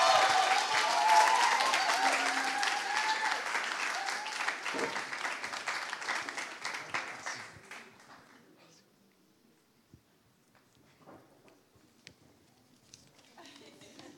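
Dense audience applause at a church gathering after a baptism, welcoming the next speaker, loud and steady for about seven seconds, then fading out into near silence with a few scattered faint sounds afterward.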